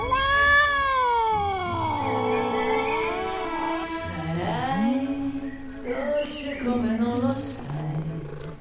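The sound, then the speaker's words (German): A cat meows loudly, a string of long, drawn-out, wavering yowls running one into the next with no pause, almost like caterwauling, and no one speaking. “Wir waren lange weg. Ich muss die Katze streicheln.”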